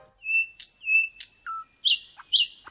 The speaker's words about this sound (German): Denn mit ihren dunkelbraunen Flügeln und dem hellbraunen Bauch ist die spatzengroße Nachtigall ein eher unauffälliger Vogel, bis sie eben den Schnabel aufmacht.